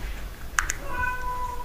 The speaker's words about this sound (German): Miau, so macht sie.